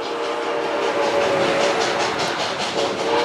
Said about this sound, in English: The funeral train was 9 cars long.